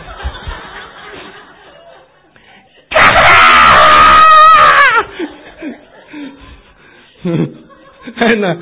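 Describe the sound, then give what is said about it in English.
A voice imitates a loud, piercing scream lasting about two seconds, rising and wavering in pitch, followed by quieter breathy sounds and brief laughter-like murmurs. “You just feel like you're going to bow down and out in the corner on the left, you know, comes this blood-chilling scream.”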